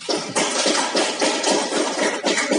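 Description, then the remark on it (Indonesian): An audience at a discussion event applauds steadily after a speaker's presentation, a dense wash of many hands clapping at once, holding a fairly even loudness throughout with no voices on top. “Boleh tepuk tangan.”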